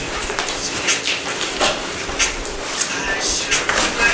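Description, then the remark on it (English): Scratchy strokes of a pencil or pen drawing a design on paper, coming in quick irregular bursts with brief pauses between them, and no one speaking. “So, another thing you can do is, if you like to draw, you could make a design on the paper first.”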